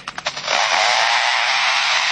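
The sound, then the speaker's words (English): A lyrebird imitating foresters' chainsaws: a few quick stuttering rasps give way to a steady, loud, harsh buzzing drone that holds for about two seconds, alone. “And now the sounds of foresters and their chainsaws working nearby.”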